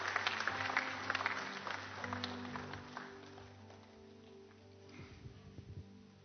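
Sustained applause from a sizable crowd at a church service for people coming forward to make a step for Jesus Christ, dense clapping that is loudest at the start and gradually thins out, with some low background hum underneath.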